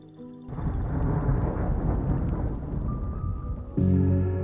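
A loud, dense roar of storm noise with rumbling thunder and rushing rain fills the scene, then cuts to a sustained, droning tonal hum at the end.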